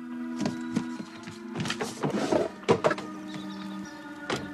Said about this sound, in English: Viola watches from a window as Kevin opens the car door for Charlie.